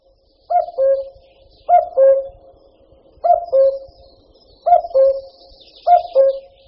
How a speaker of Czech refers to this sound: Podle hlasu patří kukačka k našim nejznámějším ptákům vůbec. Vešla do mnoha lidových písní, dokonce i do vánočních koled, a s prvním jarním kukáním je spojena pověra, kolikrát kukačka zakuká, tolika let se člověk ještě ve zdraví dožije.